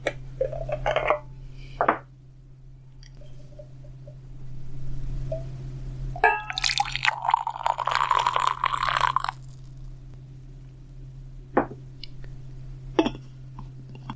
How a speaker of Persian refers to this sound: از بطری چای یک نفرم لیوانم را پر میکنم. این یکی دیگر افکت صوتی نیست، واقعا همینجا و اکنون لیوانم را پر میکنم.